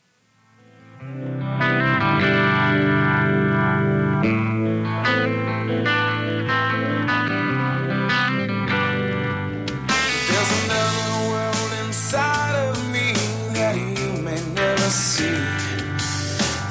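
A rock song's instrumental intro: a distorted electric guitar rings out sustained chords after a brief quiet start, then drums and cymbals crash in halfway through, with no vocals.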